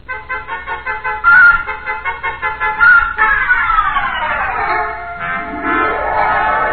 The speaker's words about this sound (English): Backed out of that wind tunnel, got in my car, and drove noisily around the corner.